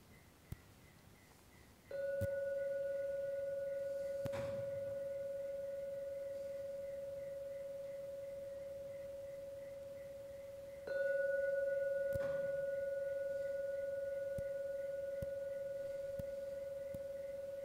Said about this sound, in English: If your mind is very peaceful, you can hear just so much in one ring of a gong. It's called enhanced awareness. But anyway, I'll ring it for 3 times. On the 3rd ringing of the gong, you may come out of your meditation.